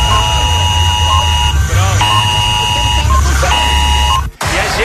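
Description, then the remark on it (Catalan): A loud electronic alarm buzzer blares at 11 o'clock in repeated harsh, steady tones with brief gaps, cutting off abruptly near the end, while low background voices murmur underneath. “Jo que estava tan tranquil·la sabent que a les 11 em sonaria l'alarma, i de cop a les 11”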